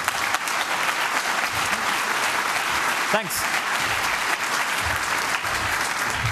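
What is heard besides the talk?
audience applause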